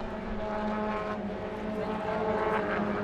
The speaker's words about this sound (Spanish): ese es el carro de Lucas Medina, la salida de los boxes